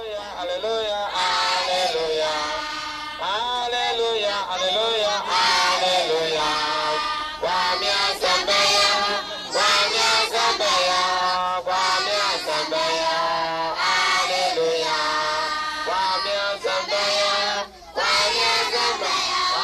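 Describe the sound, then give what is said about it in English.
A large crowd at a political rally in a small West African village chants and shouts together in loud, overlapping voices, sustained throughout with rhythmic surges and brief dips. “In a small West African village, the people gather in a political rally.”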